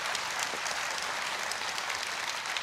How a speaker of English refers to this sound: Give these two a big round of applause. Thank you so much. Thank you, guys. Thank you.